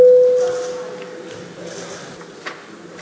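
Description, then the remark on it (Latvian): A parliament voting call bell, rung before a vote on a committee's proposal, sounds a single steady, mid-pitched tone that is loud at first and fades within about half a second, leaving quiet background murmur and a few faint clicks. “Lūdzu zvanu, balsosim par trešo aizsardzības iekšlietu un korupcijas novēršanas komisijas iesniegto priekšlikumu.”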